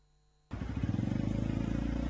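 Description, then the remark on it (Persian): After a brief low hum, a food-delivery motorcycle engine suddenly roars, its rapid throbbing exhaust pulses holding loud and steady to the end, with no voices. Recorded in Kuala Lumpur, Malaysia, during the COVID-19 pandemic. “پیک موتوری ها در دوران همه‌گیری کرونا حالا بیشتر از یک ساله که صاحبان رستوران ها رو با فروش غذا به صورت بیرون بر و تحویل در به منازل از ورشکستگی حتمی نجات دادن و کسب و کار خودشون رو هم سکه کردن.”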